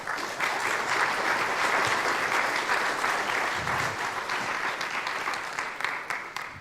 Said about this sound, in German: Ganz herzlichen Applaus nochmal. Vielen herzlichen Dank.